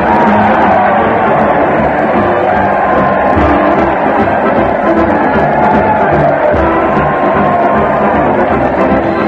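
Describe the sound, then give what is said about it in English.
A large crowd cheers and shouts continuously in the streets as Fred Allen leads his weekly parade to the old town hall. It is a dense, loud roar of many voices with whoops and yells rising out of it, steady throughout. “Listen to that crowd. They're cheering in the streets as Fred Allen leads his weekly parade to the old town hall.”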